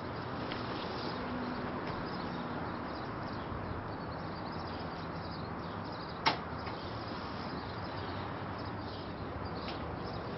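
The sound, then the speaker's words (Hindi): A door is opened partway for a visitor, marked by one sharp click or knock against a steady, hissy background noise. Nobody speaks. “दरवाजे पर हूँ, दरवाज़ा खोलो।”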